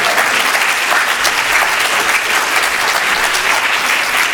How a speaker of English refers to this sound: You give her a clap. Give her a clap.